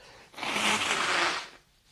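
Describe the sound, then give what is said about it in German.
A single firm nose blow, a rough, breathy burst of hissing air lasting just over a second, rising quickly and fading out, with no talking. “Ja, und ich lass den O-Ton einfach so laufen mit dem Naseputzen.”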